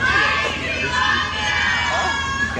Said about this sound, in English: And they set him up by with this fan meet and greet. Fans who are waiting to say hi to Luke. They're just cheering over there. I think they said, Blake, we love you.